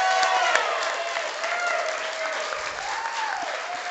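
A crowd breaks into steady applause and cheering, a dense wash of clapping with a few higher whoops and a sustained tonal shout rising and falling above it.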